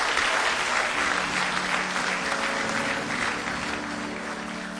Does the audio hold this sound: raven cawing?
no